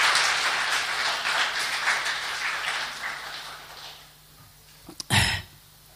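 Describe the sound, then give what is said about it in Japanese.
A church audience claps together at a worship service, welcoming first-time visitors, in dense, steady applause that gradually thins out and fades, followed by a brief quiet and a single sharp thump near the end. “お互いに歓迎の拍手しましょうか。”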